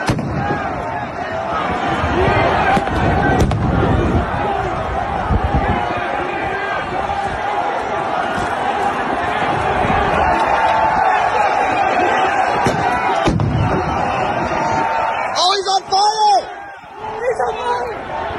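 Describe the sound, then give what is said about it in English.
A crowd at the US Capitol on January 6, 2021 roars and shouts continuously while flashbang grenades launched by Capitol Police go off in sharp, booming blasts at irregular intervals, with two of them coming in quick succession near the end. “There's your Capitol Police launching flashbangs into the crowd.”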